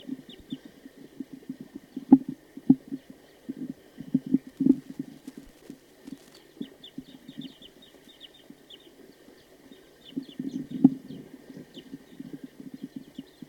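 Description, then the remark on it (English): A wild bird calls with a steady run of low, rapid clucking notes that swell in bursts, while faint high chirps flicker in the middle stretch. No one speaks. “The recording, there's a wild bird here.”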